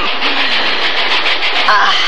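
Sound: moving train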